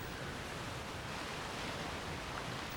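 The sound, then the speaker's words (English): A steady, soft wash of surf from a calm, empty ocean rolls on without pause under clouds in a blue sky, a continuous hiss of gentle waves with no voices or other sounds. “Clouds hang in a blue sky over a calm and empty ocean.”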